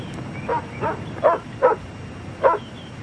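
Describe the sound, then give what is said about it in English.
A dog barks five times in short, sharp bursts, four in quick succession and one after a brief pause, over a low background hum with no one talking. “You can bark. What you barking at?”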